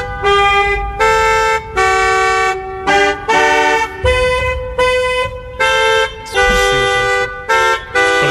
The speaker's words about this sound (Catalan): Aquesta que és, són tot de cotxes de la marca Mini, o sigui, els Minis. Sí, Mini. Tocant l'himne britànic amb els clacs.